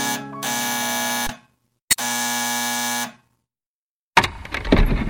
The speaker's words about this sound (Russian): мой палец прилип к кнопке звонка.